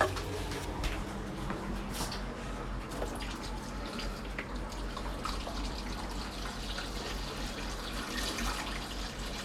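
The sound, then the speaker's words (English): Water pours and trickles steadily into potted basil, lettuce and tomato plants in a kitchen, continuous for several seconds, with small splashing drips scattered throughout and no voices. “So, for instance, I am now going out in the kitchen and I'm watering the plants, the basil, the lettuce, the tomatoes.”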